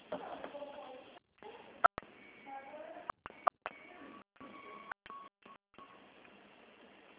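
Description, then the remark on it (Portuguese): A series of telephone keypad beeps, one button press after another at an uneven pace, as a complete 8-digit date of birth is entered for security verification in an automated phone menu, heard over a thin phone line with faint background murmur and brief dropouts between tones. “Digite sua data completa de nascimento com 8 dígitos.”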